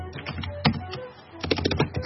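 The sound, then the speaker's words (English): Rapid computer keyboard typing with irregular clicks and clacks, a short burst, then a pause, then a denser flurry of keystrokes, moderately loud over a low background hum. “Yeah, I hear some typing.”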